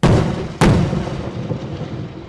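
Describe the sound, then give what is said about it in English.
Two heavy Lebanese army artillery shells land in quick succession on concrete structures in the Nahr al-Bared camp north of Tripoli, Lebanon, each a sharp, loud boom followed by a long, low rolling rumble that fades out slowly. No voices are heard. “From the hills above the Nahal Bared camp north of Tripoli, Lebanese army shells come whistling down on the primitive concrete structures in the center of the camp below.”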